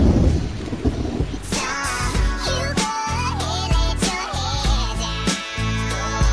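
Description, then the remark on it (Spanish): A hailstorm with rumbling thunder: a steady, dense clatter of falling ice runs throughout, while several loud, booming crashes of thunder break out every second or so. “Confites, confites blancos que rebotan en el suelo. Si no los recoges pronto, tendrás agua entre los dedos. El granizo.”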